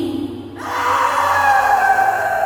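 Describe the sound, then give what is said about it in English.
An eerie, drawn-out ghostly wailing rises after a brief low murmur and holds as a high, quavering cry with layered tones, loud and unbroken, as the ghost fades away, with no one speaking. “Lady Walsh disappeared in an echo of wails this time, and every hair on Deirdre's body stood on end as she watched her mistress fade into the shadows.”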